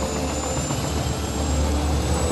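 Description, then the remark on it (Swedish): A helicopter engine runs steadily and loudly, a dense roar of turbine whine and low rumble that holds constant throughout, with no voices. “Så lätt är det att sno en helikopter bara.”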